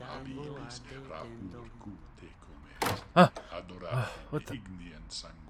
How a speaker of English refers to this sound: The door.